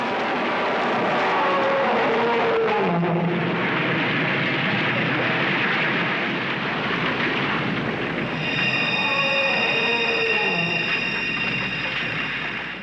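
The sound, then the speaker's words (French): Loud, dense mechanical roar of a heavy truck, broken twice by long, descending dinosaur roars as the truck overturns, crashes and grinds to a halt, with no talking. “ce camion, c'est Godzilla. Mettons un rugissement de dinosaure quand il se renverse et qu'il meurt.”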